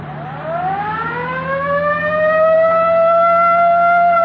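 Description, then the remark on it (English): A police car siren winds up from a low moan into a loud, sustained wail over a steady engine drone as police move to pull over a car, with no talking. “I'll get the siren.”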